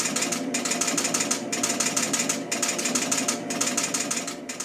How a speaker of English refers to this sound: I hit a switch just once, but the score reel moved 5 times, all on its own. Well, remember that ticking it was doing in the beginning? Perhaps you noticed it happened in groups of 5.